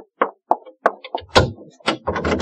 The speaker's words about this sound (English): You lady, open the door.